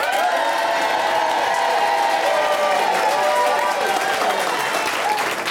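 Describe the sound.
A studio audience cheering to vote for a crime fighter to be partnered with Agatha Christie bursts into loud, sustained cheering and applause, a dense wash of clapping and excited voices that holds steady for several seconds before tapering slightly at the end.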